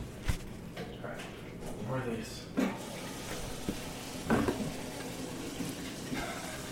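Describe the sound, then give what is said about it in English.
Wet, splashy licking sounds of a dog lapping water from a bowl, coming in irregular bursts at moderate volume, with a voice murmuring faintly alongside. “They'll be like, oh, it's so cute, there's a dog lapping up water in the background.”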